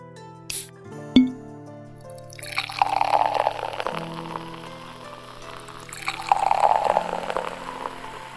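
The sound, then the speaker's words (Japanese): A beer is opened with a couple of sharp clicks, then poured steadily, swelling into two louder gushes of splashing, fizzy pouring. No one speaks. “うん、じゃあ飲もっか。開けるのをお願いしてもいい？”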